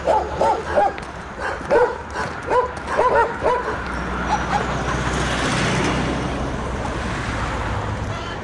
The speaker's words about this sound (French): Les chiens qui aboient.